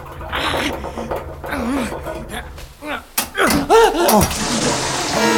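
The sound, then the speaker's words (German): A sudden sharp burst as a pipe breaks, then water gushes out in a loud, steady rush that keeps building as it floods a basement, while voices cry out in alarm over the noise. “Das Rohr ist gebrochen. Justus, das Wasser flutet den Keller.”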